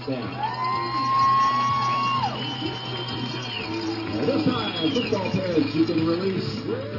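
A big crowd at a Kimberly football game at Papermaker Stadium, on a cold Friday night near the close of the regular season, cheers and murmurs in a steady, dense roar. Scattered shouts and whoops rise out of it, swelling a little louder toward the end.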